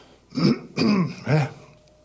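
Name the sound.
throat clearing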